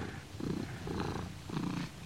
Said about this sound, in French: Mais il entend toujours du bruit. Ça ronronne et ça griffe.